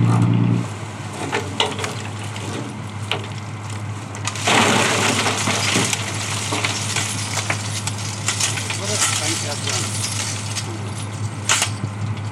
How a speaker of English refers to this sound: Okay, so the dredger is coming back in, the boat's speeding up, and yep, you can kind of see the net.